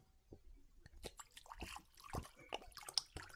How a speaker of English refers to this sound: Well, I'll pour us some wine.